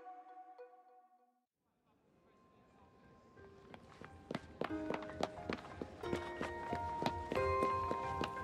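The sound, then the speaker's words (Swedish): Light footsteps of a young man in flower-patterned slippers patter quickly over cobblestones in the streets of Bern, starting soft and growing steadier and louder, a rapid jogging rhythm over a faint musical background. “De blomstermönstrade tofflorna smäller lätt när han småspringer över kullerstenen.”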